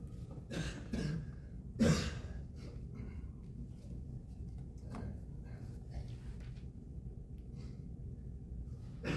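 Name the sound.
coughing and throat clearing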